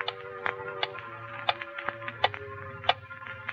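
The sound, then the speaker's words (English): A clock ticks steadily, its sharp clicks coming at a regular pace over a soft, low background hum. Nobody speaks. “It was so quiet, I could hear the clock ticking.”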